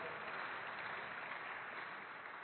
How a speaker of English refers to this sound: Well, amen. Someone wants to applaud that.